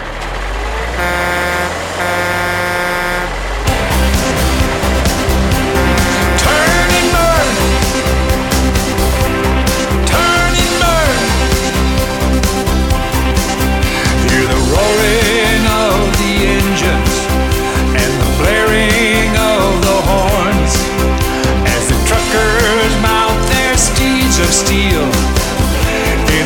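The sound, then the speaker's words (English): A loud, continuous rumble of a Special Olympics convoy of heavy trucks rolling past, with deep air horns honking repeatedly and overlapping throughout, layered over the steady drone of engines. “Let's move those trucks.”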